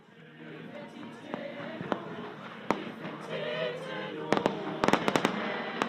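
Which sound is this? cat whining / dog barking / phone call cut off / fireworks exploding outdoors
fireworks exploding outdoors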